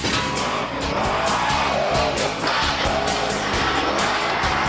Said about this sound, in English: Monster trucks. The biggest, meanest, and most powerful pickup trucks you'll ever see. I'm in St. Louis, Missouri, home to Bigfoot. It's the tallest, longest, and the heaviest pickup truck in the world. These engines turn 1,400 to 1,600 horsepower.